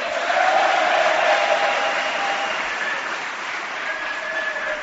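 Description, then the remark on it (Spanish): A crowd applauds Swankar steadily, the dense clapping holding at a fairly loud level throughout, with a faint tonal hum running beneath it and no voices standing out. “De todas formas, digo que qué respetuosa es la gente que aplaude a Swankar, que es de Tenerife, que no puede ver a los de Las Palmas.”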